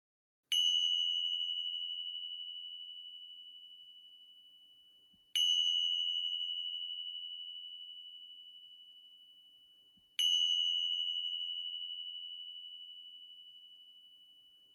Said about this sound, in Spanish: Muy bien, y desde ahí con la siguiente o la siguiente inhalación, pivotando la conciencia hacia el sonido de las campanillas que indican el final de la práctica en quietud.